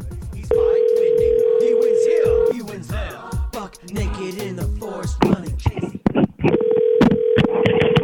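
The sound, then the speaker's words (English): A phone call to a neighbor rings out with a long steady electronic tone, then a stretch of muffled voices and clatter, and the ringing tone returns near the end, fairly loud. “…, I'm calling …, your neighbor.”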